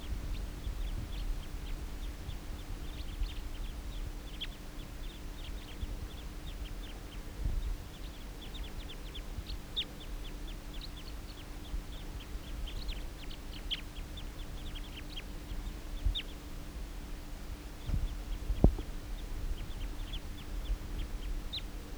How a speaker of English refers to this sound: Recording a flock of wild birds.